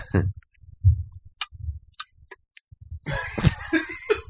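coughing

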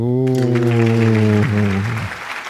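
applause

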